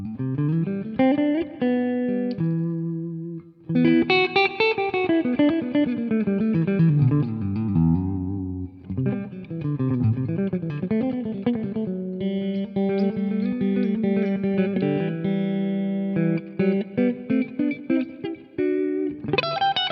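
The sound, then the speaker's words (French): An electric guitar with both pickups engaged plays bossa nova melodic lines and sustained notes through a warm, slightly driven Michelangelo Basio amp head, drenched in heavy reverb set to 70% that lets each note ring and wash out. Loud, no voices. “On va pousser la reverb et constater que la reverb est totalement exploitable, même à 70% comme c'est le cas ici.”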